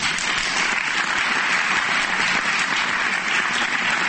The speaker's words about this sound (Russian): Зрители аплодировали долго и искренне. В который раз поклонившись, артисты, подойдя к краю сцены, протянули навстречу залу руки, как будто пытаясь выхватить из первого ряда тех, кого их музыка больше всего тронула.